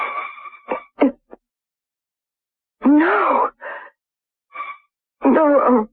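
Heavy, hollow breathing through a silver metal tube comes in several loud, rasping bursts, some with a groaning, whistling tone. Pauses of silence fall between them, and no one speaks.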